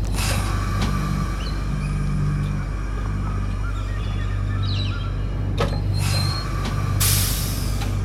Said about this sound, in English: A freight train driver eases his cargo out of the station to begin the journey south to Sydney. He's scanning the horizon as the train picks up speed and leaves the city limits. There's a light drizzle, so the driver can't see that well.